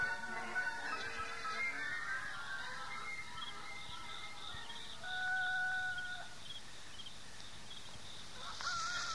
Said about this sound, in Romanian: Cocoșii vestesc miezul nopții.